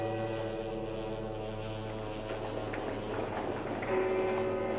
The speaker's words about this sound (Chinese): 黄浦江上一声沉闷的汽笛响过，有轮船开了过去。